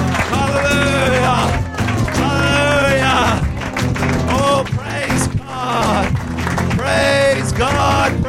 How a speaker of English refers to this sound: Let's give him a clap offer. Let's worship him. Hallelujah.